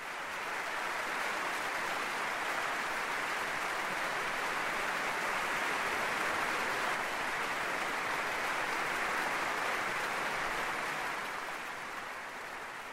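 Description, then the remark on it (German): Sustained, dense applause from the audience in the Philharmonie Berlin for the soloists, choir, Deutsches Symphonieorchester Berlin and conductor Kent Nagano, a steady wash of many hands clapping at even loudness for the whole stretch, easing slightly at the end, with no voices. “Ja, gewaltiger Applaus von dem Publikum hier in der Philharmonie Berlin für alle Mitwirkenden dieses Abends, für die beiden Solistinnen, den Chor, das Orchester und den Dirigenten Kent Nagano,”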